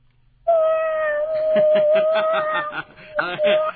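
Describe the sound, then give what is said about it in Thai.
Someone imitates a cat with a long, drawn-out vocal meow lasting several seconds, fairly loud, with giggly, snickering pulses woven through it and a short burst at the end. “พอแล้วพอแล้วเสียงแมวน่ากลัวมากเลย”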